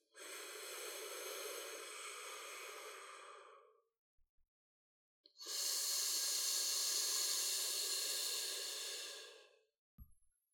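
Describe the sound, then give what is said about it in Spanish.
Two long, steady hissing exhalations pushed out through the teeth while squeezing the pelvic floor muscles in a breathing exercise, each lasting several seconds with a pause between, the second louder and brighter, with no talking. “Vamos a repetir dos veces más, inhalando por los labios, pausando brevemente, apretando los músculos del piso pélvico y expulsando el aire por los dientes.”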